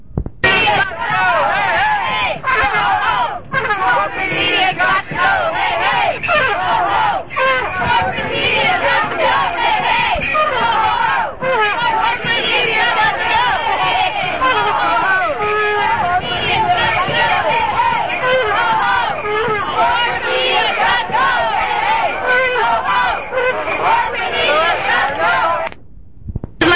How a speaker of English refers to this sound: Yeah, this is pretty much what we expected, a group of people marching on the media and making their points known.